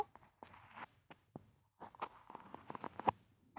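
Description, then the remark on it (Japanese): Quiet scratching and rustling of an ear being cleaned, like an ear pick scraping inside an ear, coming in short irregular strokes and brushy bursts with brief pauses between them. No one speaks. “この辺りもガサガサしてるかも。”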